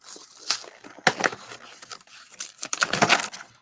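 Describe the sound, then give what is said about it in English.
Packaging of a Wonder Woman toy being torn open: crinkly, papery rustling with several sharp ripping bursts, the loudest near the start and a dense, crackling flurry toward the end. No one speaks. “I'm going to open Wonder Woman.”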